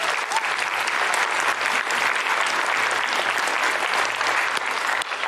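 A large group claps steadily, a dense, sustained wash of applause at close, even loudness for several seconds with no voices rising above it.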